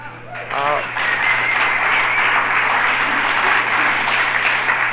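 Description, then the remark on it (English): A brief voice at the start gives way to a crowd breaking into steady, sustained applause for a speaker's 30 years of sobriety, staying loud and dense for several seconds without fading. “applauding an alcoholic for staying sober is just like applauding a rodeo hand with hemorrhoids for not riding a bucking horse”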